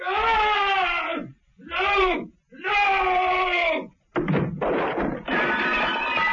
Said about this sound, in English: The silence was shattered by a terrible scream and a crash.